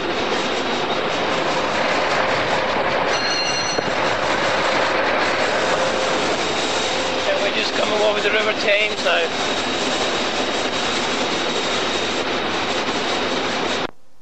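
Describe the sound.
A steady, loud roar of a train running on rails through Goring Station, passing a DMU stopping train to Reading, fills the whole stretch, with a man speaking briefly over the rumble and a few higher metallic tones rising partway through.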